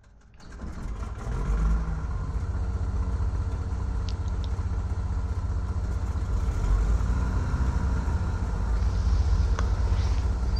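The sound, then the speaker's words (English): An aircraft engine, started by pressing Control E, spins up over the first couple of seconds, then settles into a steady, low, rumbling idle with a constant droning hum and no talking. “I'm gonna hit Control E to start this up.”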